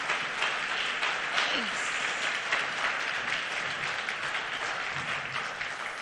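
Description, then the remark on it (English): Sustained audience applause as a woman takes the stage to speak, a dense, steady wash of many hands clapping at an even loudness for several seconds, with faint voices mixed into the crowd noise. “And so please give her your thanks with your applause as she takes the stage.”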